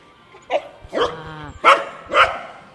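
A dog barks four times, sharp and loud, with short uneven pauses between the barks and no talking, fixated on the black cover of a microphone.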